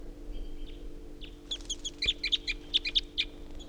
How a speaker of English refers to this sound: And another, and a third. So there are three birds now, top of this pine. Two of them just took off. Tupper remains.